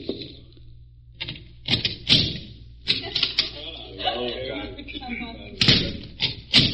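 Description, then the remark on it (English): Sharp raps on a solid, bolted door at the end of a moonlit alley at night, in irregular bursts, some doubled, loud, with a stretch of muffled voices murmuring between the knocks. “A thin trickle of moonlight picked out garbage cans, empty milk bottles, and Mr. Cochran knocking on a door at the end of the alley.”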